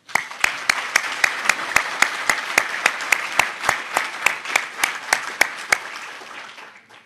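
A crowd applauds steadily for newly installed committee members at a council meeting, with a brisk run of sharp, evenly spaced claps standing out above the dense wash of clapping. It carries on for about six seconds before fading quickly.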